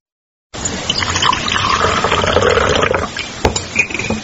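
Coffee brewed in a cezve with spring water pours steadily into small cups for a couple of seconds, a rushing liquid stream, followed by a sharp clink and a few softer trickles and taps, at a small guest house in Kokluz village, Bakhchysarai mountains, Crimea.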